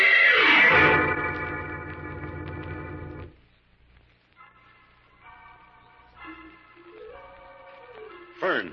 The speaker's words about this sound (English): I picked up that wild music on the telepathic indicator again. Where do you suppose it's coming from, Jim? I'm not sure, Fern, but it sounds like gypsy music. Could be coming from that gypsy camp several miles out of town.